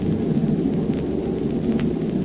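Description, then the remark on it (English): A second bomb released from a bomber plane explodes, heard as a deep, sustained rumbling roar, heavy in the low end and holding steady and loud for about two seconds without fading. No voices. “Pilot to crew, I'm releasing bombs.”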